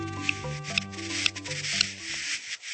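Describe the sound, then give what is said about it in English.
Courtship calls of a male buff-breasted sandpiper courting a female on breeding grounds far north of the Arctic Circle: four sharp, dry clicks spaced about half a second apart over a steady breathy hiss and a low droning hum. “They're the calls of a male buff-breasted sandpiper courting a female on their breeding grounds far north of the Arctic Circle.”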